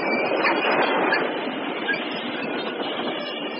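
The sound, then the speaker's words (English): Train wheels lock and grind against the rails as the train brakes hard to avoid a collision, sending sparks flying from the rails: a loud, continuous rushing screech that holds steady for a few seconds, slightly louder at the start, with no voices. “I felt our wheels freeze beneath us and saw sparks fly in every direction from the rails as we struggled to avoid a collision.”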